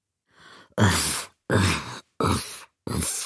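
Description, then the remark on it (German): A voice imitates a stepmother's heavy, labored panting as she tramples thunderously through the hall: a soft first breath followed by four loud, breathy groaning exhalations in a steady rhythm, strained. “Keuchte Sheila, während sie donnernd durch die Diele trampelte.”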